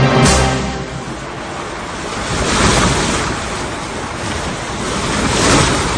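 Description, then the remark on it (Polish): Atlantic ocean waves around the submarine U-234 on 14 May surge and roar in slow, rolling swells, a loud hissing wash rising and falling every couple of seconds, with a gusty wind rumble underneath and no voices. “14 maja, U-234 Atlantyk.”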